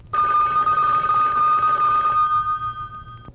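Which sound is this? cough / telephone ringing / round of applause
telephone ringing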